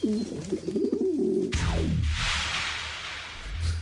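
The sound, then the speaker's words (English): A pigeon coos in a series of low, throaty, warbling calls, then a sudden broad rushing noise takes over, like a flurry of movement, with no talking. “Delivered via carrier pigeon?”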